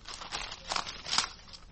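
Pages of today's newspaper rustle and crinkle in a few irregular, papery swishes and crackles, fairly soft and unbroken by any voices.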